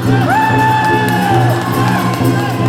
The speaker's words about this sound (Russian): Музыка помогает поднимать боевой дух перед сражением, помогает в самом бою, и как тут не вспомнить прежде всего громогласные «Ура!», с которым идут в атаку. Это ведь тоже своеобразная музыка, его кричат хором.